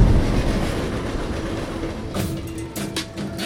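vehicle, freight train passing

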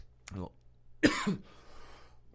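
human body sound, cough

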